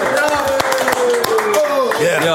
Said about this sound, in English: Hold on. Clap your fucking hands. One, two, three.